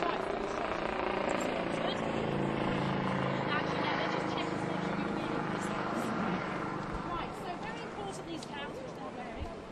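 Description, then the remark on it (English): A police helicopter hovers overhead, its steady rotor drone and engine rumble filling the air continuously, with indistinct voices faintly underneath and the noise easing slightly toward the end. “This is our police helicopter, which likes to hover around on Saturday.”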